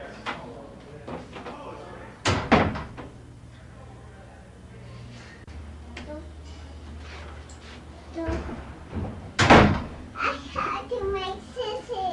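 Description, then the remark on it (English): A bathroom door bangs and rattles open, then several seconds later swings shut with another sharp knock, while a child and an adult talk quietly. “The bathroom door? Yes. Come on, we'll go out this way.”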